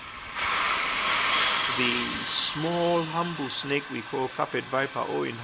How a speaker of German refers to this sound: den Klang einer Sandrasselotter für uns eingefangen.